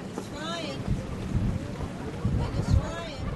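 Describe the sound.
Gusty wind buffets the microphone in low, rumbling surges on the deck of the schooner American Eagle, racing out on open water near the finish line, swelling twice; a gust sends plastic bottles and aluminum cans rolling across the deck, with indistinct voices calling faintly in the background.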